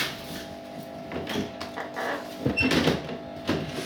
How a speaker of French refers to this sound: C'est la caméra qui les photographie. pendant toute la durée de la pause, tandis qu'ils fixent tous les trois l'objectif. On entend le bruit de ressort du déclencheur jusqu'au déclic final.